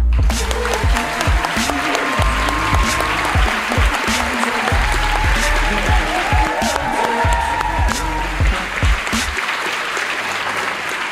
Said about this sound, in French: Merci d'applaudir chaleureusement quelqu'un qui a joué son spectacle ici plusieurs mois, mesdames et messieurs, Manu Payet.